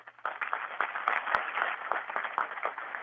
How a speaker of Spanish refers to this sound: Muchas gracias, Monseñor Luis Felipe Sánchez Aponte, obispo de Chiquinquirá, por convocarnos. Le damos un aplauso en agradecimiento.